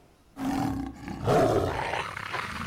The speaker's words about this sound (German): Und plötzlich kommt euch aus den Büschen, hört ihr wieder ein Geheul und ein Gekrummel. Und es kommen euch ein Rudel Wölfe entgegen.